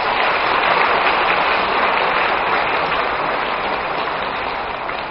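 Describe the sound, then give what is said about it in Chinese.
Sustained applause from a large theatre audience thanking Guanyin Bodhisattva, a dense, steady wash of clapping that stays loud throughout and eases off only slightly at the end, with no voices heard over it. “所以呢大家再鼓鼓掌，谢谢观世音菩萨。”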